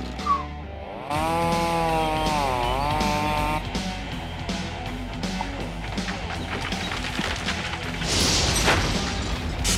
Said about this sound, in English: Yeah, this chainsaw kicks ass. Pruning is cool.